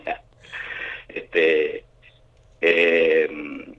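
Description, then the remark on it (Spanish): A phone rings with a bright, buzzy electronic tone in a few short bursts separated by brief pauses, an incoming call from the mayor of Londres. The ringing is fairly loud, with no one speaking over it. “Mire, justo estoy acá hablando y me está llamando el intendente de Londres, me está sonando el teléfono.”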